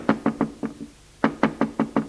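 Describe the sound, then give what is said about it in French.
Two quick bursts of knocking on the door of a father's office: four sharp raps, a brief pause, then five more, crisp, with no voices. “George frappe au bureau de son père.”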